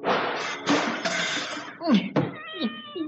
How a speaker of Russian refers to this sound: Она стала подкрадываться, потом прыгнула и маятник, и часы, и нарисованная кошка с ужасным грохотом и мяуканьем упали на пол.